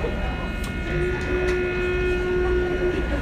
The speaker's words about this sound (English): That's just the sound of the third rail. How weird is that?